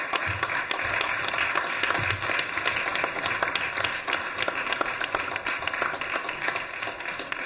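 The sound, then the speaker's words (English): A crowd applauds the Miami Beach Resiliency Communications Committee team being recognized by the mayor and commissioners of the city of Miami Beach, many hands clapping in a dense, continuous patter that holds at an even loudness for several seconds with no voices standing out. “This teamwork, let's give them a round of applause.”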